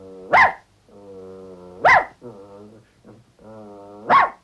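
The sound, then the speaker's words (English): Three loud, sharp dog barks spaced a couple of seconds apart, with low, sustained growling rumbling in the gaps between them. “The dog has broken that barrier, and the barks help to break down the barriers.”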